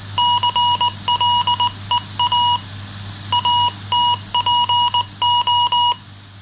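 Telegraph Morse code signals sent over telegraph lines: clipped, steady-pitched electronic beeps in short and long pulses, sent in irregular groups with brief pauses, over a faint low hum and no voices.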